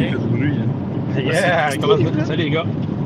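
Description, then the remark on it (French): Steady low engine rumble and road noise from a moving pickup truck fills the background while someone talks over it. “Salut, on entend beaucoup ta voiture, fait que faut que tu parles plus fort.”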